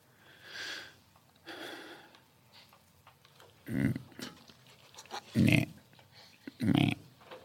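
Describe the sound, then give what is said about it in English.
A voice imitates a snarling dog with breathy growls and hisses, ending in three loud, harsh snarling bursts at fairly even intervals. “I'm a nasty dog.”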